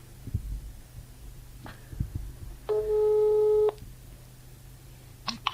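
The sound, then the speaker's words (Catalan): A single steady telephone ringback tone while placing a phone call, about one second long, sounds clearly over a low background rumble and a few faint knocks, with no one speaking. “Vinga, a veure si ens l'agafa el telèfon.”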